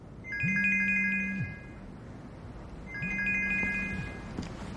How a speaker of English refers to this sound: Meanwhile, Spencer's at work in his shop. He looks at his phone. Charlotte's calling.